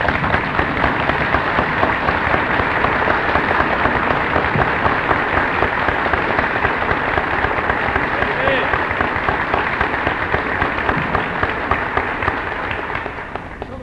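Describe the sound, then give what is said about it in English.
A large audience stands and applauds steadily in appreciation of a man, a dense roar of many hands clapping at once that holds strong throughout and only begins to taper slightly at the very end. “I think you'd like to stand right where you are and just applaud to let him know that you appreciate what he has done and is doing.”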